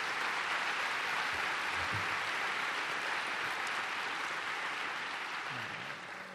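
Steady, dense applause from a crowd fills the whole stretch, a continuous wash of many hands clapping at even loudness before easing slightly at the very end. No one speaks over it.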